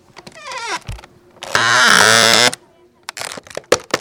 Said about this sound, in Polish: Dźwięk to było skrzypienie drewnianej śruby, jako że całość działa na zasadach realnych, również z odtworzeniem, więc śruby też drewniane, wielkie. Potężny być muszą.